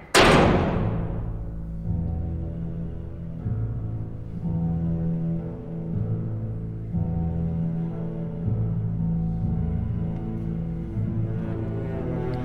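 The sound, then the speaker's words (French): A heavy door slams shut with one loud, booming impact at the start, then a low, steady, tonal drone carries on for many seconds with no talking. “Attention, la porte se ferme.”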